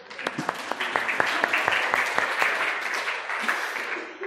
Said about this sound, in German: Danke vielmals. Du bist super. Applaus.